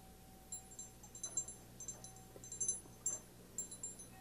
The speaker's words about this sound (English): And here's the smallest bell. I want you to hear the difference. Not only see the difference, but hear the difference. Now, here's the big one. Now, here's the little one.